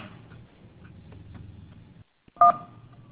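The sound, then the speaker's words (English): A single short, loud telephone keypad DTMF tone sounds on a Shell Energy automated phone service, right after a brief moment of silence and following a low, muffled background rumble; the line then stays quiet and hollow. “To talk to us about energy, press 1. For broadband or home phone, it's 2.”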